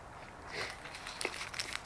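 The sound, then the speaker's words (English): Soft crinkling of a cough drop wrapper being handled, a scatter of short crackles and rustles over a couple of seconds, with no one speaking. “Give me a moment with my cough drop here.”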